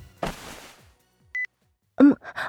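A mobile phone rings with a single short, clear electronic tone, set between a burst of rustling noise before it and a few brief, clattery sounds afterward.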